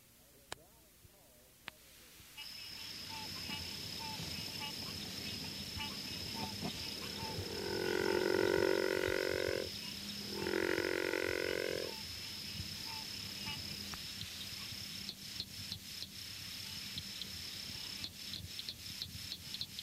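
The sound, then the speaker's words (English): A river frog gives two low, rough growling calls, each lasting a couple of seconds with a short pause between, over a steady high insect drone and faint night ambience. “Although the species is often fairly common, its growling call is seldom heard.”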